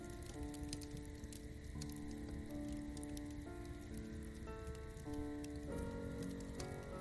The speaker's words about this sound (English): But you can hear the sounds of the flames in the fire pit in front of you, as the crackling and popping of the fire fills the soundscape.